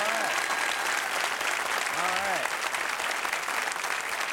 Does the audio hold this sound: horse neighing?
no